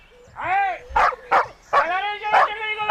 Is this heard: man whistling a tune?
no